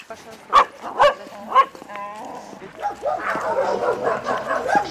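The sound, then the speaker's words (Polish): A dog that is ready for adoption barks three times in quick, sharp succession during a walk, followed by a brief whine-like tone and then a stretch of busy, murmuring background noise. “no ale to 2 miesiące pracy, no i teraz jest pies gotowy do adopcji.”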